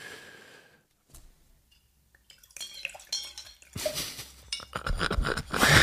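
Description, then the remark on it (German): Wine, a 4 Kilos from a winery in northeast Mallorca, being poured into a glass: a few light clinks and drips, then a steady gurgling stream that grows louder and fuller toward the end, with no one talking. “Dann gieß mal ein.”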